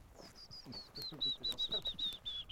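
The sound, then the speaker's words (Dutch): A willow warbler sings a sweet run of clear, rapid notes that gently slide downward in pitch, fairly faint, while people murmur in conversation underneath, in the Oostervallei. “Dit kan dus wel een vers aangekomen fiets zijn die hier zit te zingen.”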